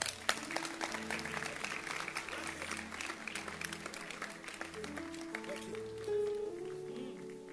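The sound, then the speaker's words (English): A church audience claps hands for a super center leader in a steady, dense burst of applause that lasts throughout, with sustained low musical tones humming beneath the clapping. “Super center leader, clap your hands for her.”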